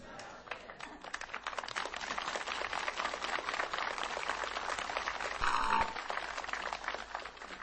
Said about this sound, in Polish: Było oklaski dla Matki Najświętszej, teraz dla Ojca Dyrektora.